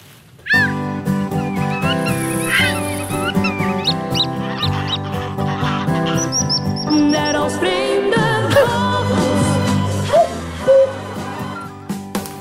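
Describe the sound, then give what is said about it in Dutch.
A short, loud Dutch radio jingle for the nature segment Vreemde Vogels, with sustained instrumental tones, layered with bright bird chirps and honking, goose-like calls that pop up throughout, with no talking. “Nee, dat was de jingle die we al gemaakt hebben.”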